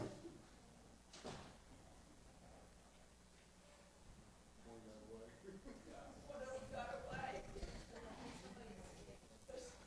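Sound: back door being opened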